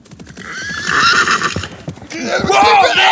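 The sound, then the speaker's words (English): Horses whinny loudly, two long shrill neighs in a row, while a quick, steady clatter of hooves pounds underneath throughout, as the ridden horses jump over a fence while leaving town and their riders fall to the ground. “As the Daltons were leaving town, their horses jumped over a fence and the men fell to the ground.”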